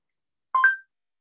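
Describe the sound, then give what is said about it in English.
A quick pair of clear electronic phone dialing tones as a call is placed to a ride driver, lasting under half a second in otherwise silent surroundings with no voices. “Your driver is arrived. Call.”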